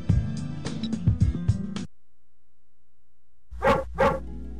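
Two loud dog barks in quick succession follow a pause of near silence, preceded by a stretch of dense tonal sound at the start.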